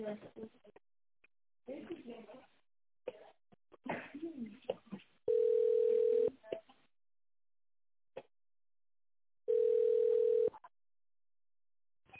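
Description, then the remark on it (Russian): A voice speaks briefly, then a telephone ringback tone sounds twice while a call to the managers of the company RobotBata connects: steady, clear one-second beeps separated by a long pause, with a few faint clicks between them. “Звонок уже идет нашим менеджерам. Ожидайте, пожалуйста.”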